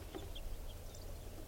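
bird, flock of birds calling

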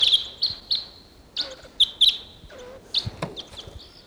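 bird, wild bird calling

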